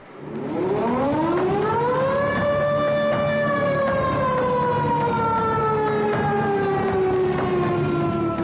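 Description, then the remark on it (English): An air raid siren winds up to a loud, steady wail, then slowly sags in pitch as it sounds on alone. It stays powerful throughout, with no voices over it. “Michael Veitch, that sound of the air raid siren was a terror for a whole generation.”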